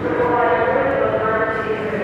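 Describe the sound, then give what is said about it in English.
Steady ambience of an underground metro station used as a shelter, where people stay overnight on sleeping bags and air mattresses: a dense, loud wash of echoing murmur and low hum that holds evenly throughout, with no single voice standing out. “Underground, below these women and this destruction, is a subway station.”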